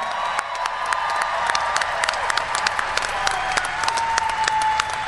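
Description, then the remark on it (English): A crowd applauds the Marines of the Marine Corps' Toys for Tots program, dense overlapping claps filling the space for several seconds, with a faint sustained tone and a few cheers mixed in. “How about a big round of applause for our Marines?”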